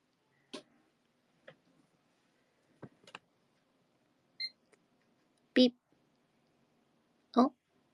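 A computer failing to start gives a few short electronic beeps between sharp clicks and louder mechanical clunks, spaced irregularly.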